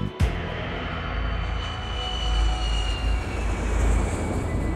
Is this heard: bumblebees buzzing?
no